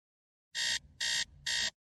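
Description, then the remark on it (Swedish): An alarm clock beeps three times in a steady rhythm, each harsh electronic burst lasting about a quarter second, loud with no voices. “Jag vaknade av att väckarklockan ringde.”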